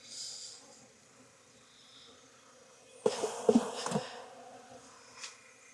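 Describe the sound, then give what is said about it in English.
A steady drone of many honeybees buzzing together around an open hive, broken midway by a brief louder burst of rustling and clatter before the hum settles back. “She's got plenty of bees to take care of her.”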